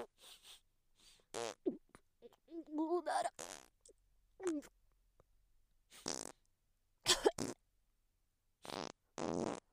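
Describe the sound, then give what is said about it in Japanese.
A string of a customer's fart sounds: several short, irregular bursts, some buzzy and wavering in pitch, others breathy and hissing, separated by brief silences. “お客様のおなら、とても良い香りでございました。”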